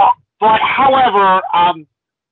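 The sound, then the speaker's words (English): A loud voice fakes a cough on purpose: a short grunt, then a longer voiced, throaty burst that breaks into a final short hack, sounding more spoken than a real cough. “It's like cough, Hardy's cough.”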